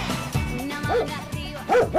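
animal, dog barking

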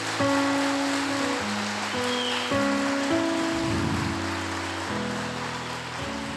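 crowd, audience applause

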